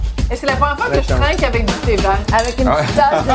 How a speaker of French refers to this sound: Et c'est la première fois que je trinque avec du thé vert. Avec une petite tasse de thé.